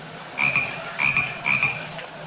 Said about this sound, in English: Number 7, Mexican burrowing toad.